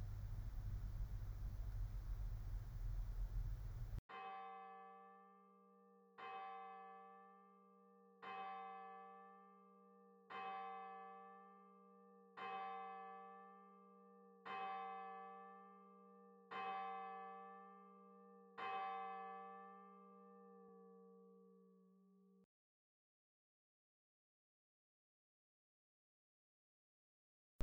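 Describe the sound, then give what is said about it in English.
A brief burst of hiss gives way to a clear, resonant bell struck seven times at a slow, steady pace, each tone ringing out and overlapping before the last one fades away. “Be aware of your need and return to this whenever you hear the bell, becoming more aware again of your desire.”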